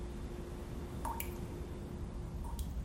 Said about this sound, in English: A leaky kitchen faucet drips into a sink.